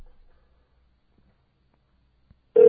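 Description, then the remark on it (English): Near silence with a few faint bumps, then a loud, steady telephone ringing tone cuts in abruptly at the very end, clear, as a call is placed back to a person's phone. “It's not ringing.”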